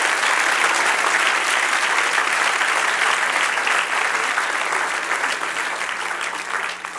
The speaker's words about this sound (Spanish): Gloria, denle un aplauso al que reina y vive para siempre.